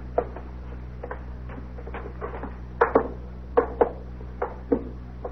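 A series of sharp knocks from a door knocker, irregularly spaced with a few heavier double raps, over a steady low hum. No one speaks.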